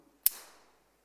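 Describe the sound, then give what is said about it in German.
A single sharp metallic click as a carabiner snaps shut while being clipped into the front of a climbing harness, bright and crisp, followed by a short ringing tail that fades within half a second. No voices. “Und zwar, wenn ich mich hier an dem Karabiner, wenn ich den vorne in meinen Gurt einhake, dann hat es ein Geräusch, das liebe ich beim Klettern.”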